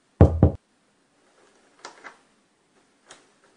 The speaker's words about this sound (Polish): Mam drzwi zrobione z kartonu na elektromagnes i klamkę.